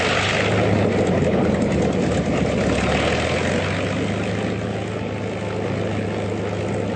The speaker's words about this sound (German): Am 17. Dezember 1903 flog Orwell Wright als erster Mensch in einem motorisierten Flugzeug.